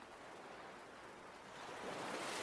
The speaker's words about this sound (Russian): Давайте подойдем к воде. Ощутите разницу между сухим песком и влажным у кромки пляжа, где волна омывает песок.